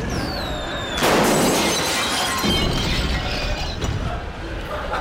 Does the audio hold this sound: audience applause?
no